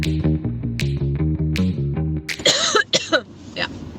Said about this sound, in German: Ich habe einen kleinen Hustenanfall gehabt. Das hat nichts zu bedeuten. Ich habe auch ein bisschen Kratzen im Hals nach wie vor. Das bedeutet nicht, dass ich dieses Virus habe.